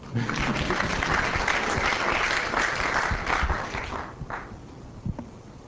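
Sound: audience clapping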